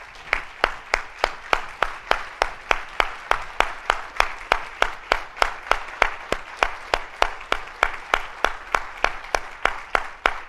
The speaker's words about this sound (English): what I would say right now, if you are serving in the military or have served in the military, I would actually ask you to stand so that we can give you a round of applause, if you'd be willing to do that, in terms of just remembering your service.